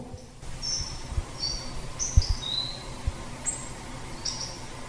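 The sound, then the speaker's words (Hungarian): A hawfinch gives a series of thin, weak, high-pitched call notes, about six short ticks spaced irregularly over a low rumbling background, fairly faint. “Egy hangot például megmutatok, például a megyvágó.”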